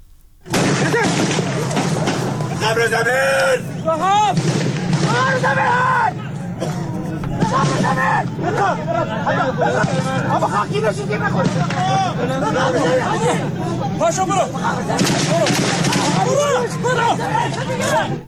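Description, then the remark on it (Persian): A rough phone recording, made this morning by an attendee, of a deadly armed attack on a ceremony, attackers firing from a park behind the stand: loud booming gunshot bursts scattered through a dense, continuous crowd uproar of shouting and overlapping voices, harsh and distorted throughout. “تیراندازی رو مهاجمان از پارکی پشت محل جایگاه برگزاری مراسم آغاز کردن به سوی جایگاه و خبرگزاری فارس تصاویری رو از واقعی حمله مسلحانه مرگبار صبح امروز منتشر کرده که به گفته اون خبرگزاری یکی از حاضران با گوشی همراهش ضبط کرده که بخشی از اون رو میشنویم.”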